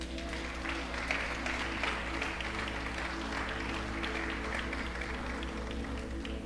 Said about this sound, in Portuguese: Jesus está sentado à mesa com você. Se você crê nisso, aplauda ao Senhor.